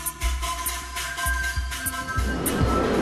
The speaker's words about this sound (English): I'm here in northeast Tokyo in the bustling Asakusa neighborhood. There are lots of people on bikes and buses whizzing by,